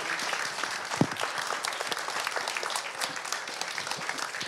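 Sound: audience applause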